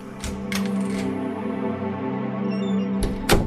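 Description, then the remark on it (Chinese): The door of a public housing flat opens for an evening visitor with a few sharp clicks and clunks, one pair near the start and a louder knock-like pair at the end, over a steady humming tonal background. “请开门，请倒茶。”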